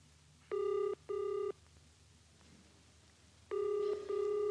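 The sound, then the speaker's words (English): A telephone ringing tone heard down the line as someone phones the army, two double rings in the classic brr-brr pattern separated by a pause, steady and clear with faint background hum and no talking. “I'd better let it ring a bit longer. There's bound to be somebody there. I'm phoning the army.”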